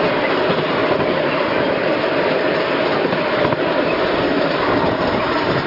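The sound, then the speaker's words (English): A small train on the Summerfield Miniature Railway, run by the Bedford Model Engineering Society, rumbles past on a windy, cold bank holiday Monday, a steady, continuous clatter of wheels on track that holds at an even loudness throughout, with no voices. “And here's another one going past on a different line.”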